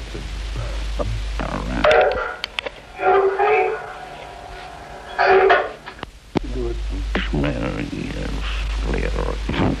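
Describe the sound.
A loud horn honks in two sustained blasts, one after the other, with a low rumble underneath and people talking near the end.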